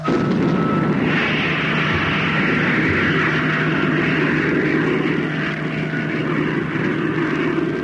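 A powerful engine roars steadily and loudly for the whole stretch, a dense rumbling blast like a rocket motor firing, holding at full strength without pause and with no voices over it.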